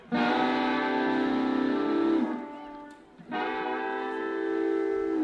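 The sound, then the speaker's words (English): A pedal steel guitar imitates a train whistle with two long, loud, sustained wailing chords, the first sliding downward before a short break, then a second steady blast. “if I listen real close to Chuck's pedal steel guitar, I can hear that train whistle blowing right now”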